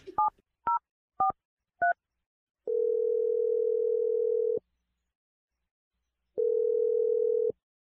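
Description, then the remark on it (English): A few quick telephone keypad beeps as a phone number is dialed, followed by two long, steady ringing tones separated by a pause before the call connects, clear with no voices. “I'm gonna dial your sister's phone number right now.”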